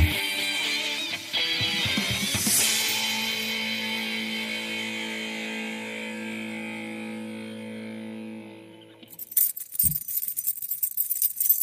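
A bright ringing metallic tone swells and slowly fades, then a bunch of keys, the signature sign for presenter Alex Schlüter, jangles and rattles in quick irregular clinks for a couple of seconds, with no voices.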